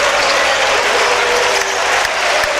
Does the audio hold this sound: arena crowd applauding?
yes